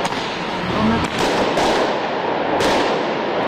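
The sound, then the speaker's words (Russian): Fireworks fired in rapid bursts by protesters against tear gas and water cannons in Tbilisi, Georgia, go off in sharp cracking bursts amid a dense, roaring outdoor din, with a few louder pops standing out over continuous crowd-like noise. “Пулеметы из фейерверков против слезоточивого газа и водометов.”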